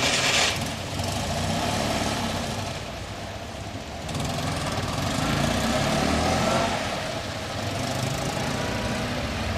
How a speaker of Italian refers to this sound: le teste maschili si voltavano come una distesa di parabole radar nel sentire il ruggito del motore 12 cilindri a V della Enzo.